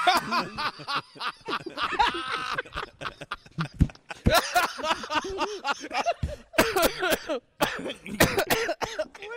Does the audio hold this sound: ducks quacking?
no